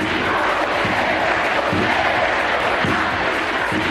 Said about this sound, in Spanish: Boti, boti, madridista, el que no boti, es lo que gritaban en esa grada.